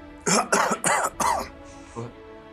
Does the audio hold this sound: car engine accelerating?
no